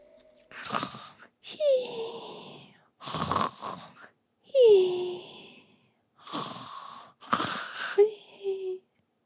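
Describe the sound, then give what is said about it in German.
A voice imitates the soft snoring of a sleeping marmot curled up on a cozy carpet: four or five breathy, rasping snores at a slow, steady rhythm, some ending in a thin whistling glide, fairly quiet, with no talking. “Die beiden Socken vernahmen das leise Schnarchen von Mokko.”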